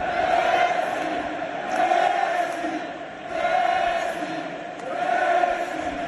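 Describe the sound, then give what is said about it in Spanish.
A huge crowd filling the Camp Nou chants Messi's name in unison in the 10th minute of a match. The roar swells and eases in a steady two-syllable rhythm about four times, loud and continuous, with no single voice standing out. “En el minuto 10 del partido, el Camp Nou, lleno hasta la bandera, ha cantado esto.”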